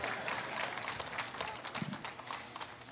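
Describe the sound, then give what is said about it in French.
A crowd at a religious gathering slapping hands with one another in a dense, irregular patter of smacks, fairly loud, continuing steadily throughout with a faint murmur of voices underneath. “Frappez dans la main de quelqu'un d'autre.”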